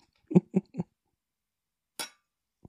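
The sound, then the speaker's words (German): A single bright glass clink from a toast to love rings out and fades quickly, preceded by a few short, low vocal sounds, otherwise quiet. “Lass uns trinken auf. Die Liebe. Den Motor. Und Antrieb. Für alles. Prost, Süße. Prost.”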